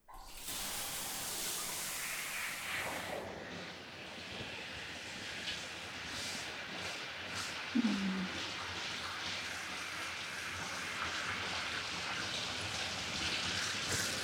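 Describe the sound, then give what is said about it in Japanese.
Water pours steadily, a continuous hissing spray like a shower head rinsing shampoo lather out of a person's hair after washing is finished, unbroken for the whole stretch with no voices. “仕上げも完了したし、洗い流していきますか。”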